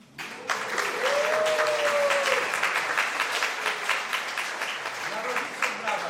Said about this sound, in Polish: Brawa dla rodziców, tak.